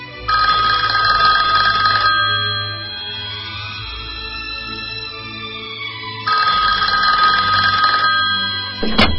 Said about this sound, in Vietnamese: Hôm đó tôi đang ở nhà thì nhận được điện thoại.